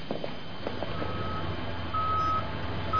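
truck reversing beeps

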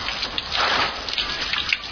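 shower water running

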